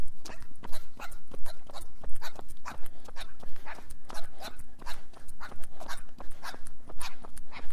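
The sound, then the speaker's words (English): A puppy whimpers and yips in short, repeated high-pitched bursts, mixed with scratchy rustling and shuffling as it moves about, over a steady low hum. “Hey, pup. Turn around.”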